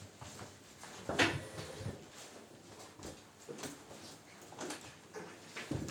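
A door is pushed shut once, giving a short thud with a brief rattle, followed by quiet room noise and faint shuffling movements.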